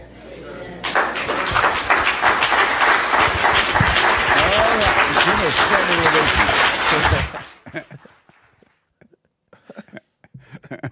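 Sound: audience clapping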